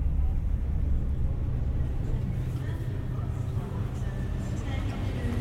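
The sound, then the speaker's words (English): A steady, deep rumble of a train heading north, next station Newcastle, rolling along the track continuously throughout, with faint high squeals rising near the end. “The rumble of the track, the whisper of anticipation.”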